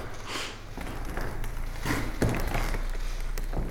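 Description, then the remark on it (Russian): Old wooden parquet in the sacristy of the Trinity-Sergius Lavra, Sergiev Posad Museum-Reserve, creaks under slow footsteps, a few scattered groans and taps over a steady low room hum, moderately quiet. “Скрип пола в ризнице Троице-Сергиевой лавры.”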